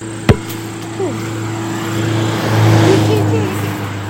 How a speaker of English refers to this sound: That guard truck keeps driving by. Yeah, as I was dribbling out, I looked over my shoulder on occasion. I could see the guard truck was behind me, like 100 yards back, just following me.